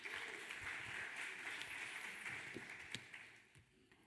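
A crowd applauds steadily, a dense wash of many hands clapping at an even level before thinning out and tapering off toward the end, with a few sharper claps standing out.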